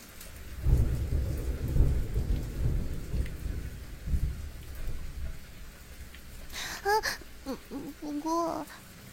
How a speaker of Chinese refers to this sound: 是雷雨天，我害怕打雷